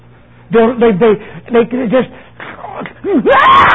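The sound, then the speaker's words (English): An adult voice mimics a child's screaming tantrum with a run of loud, wavering wails and cries, rising and falling in pitch, continuous for a few seconds, ending in a harsher shriek. “Think of that little child. Start screaming.”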